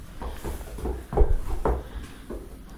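A door being pushed and tested to check whether it is shut, with a quick series of wooden knocks and rattling thuds, the loudest around the middle, then settling. No voices.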